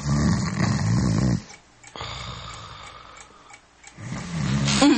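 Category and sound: human body sound, person snoring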